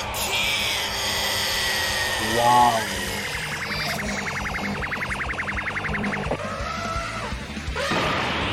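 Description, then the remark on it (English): A man mimics an elephant's trumpeting: a short rising wail, then a long, high, buzzing, fluttering call held for about three seconds, followed by a briefer strained cry. “He's making the noise of an elephant.”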